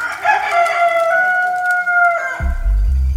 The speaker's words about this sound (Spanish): Una vez más, Pedro lo negó, y enseguida cantó un gallo.